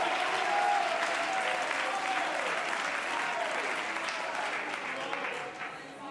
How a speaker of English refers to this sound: Oh, could you clap your hands and shout unto God and say, I want to be with Jesus.